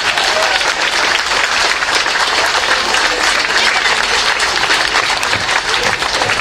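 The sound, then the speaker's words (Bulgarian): Sustained audience applause as special guest Antonio López, secretary general of the European People's Party, is invited onto the stage. A dense, steady crackle of many hands clapping at an even, loud level throughout, with faint crowd murmur mixed in. “Не знам защо не ръкопляската още по-силно.”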